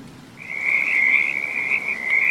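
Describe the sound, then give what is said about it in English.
A sustained, high-pitched trilling chorus of frogs croaking at night in the rain by a deserted square at an abbey car park rises after a brief moment and continues steadily, fairly loud, over a soft background hiss with no voices. “A small, uncomfortable car parked at night in a deserted square in the rain, with frogs croaking.”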